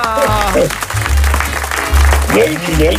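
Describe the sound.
Steady, warm crowd applause for an introduced performer fills the whole stretch, a dense crackling wash of clapping, while a voice shouts and cheers loudly over it.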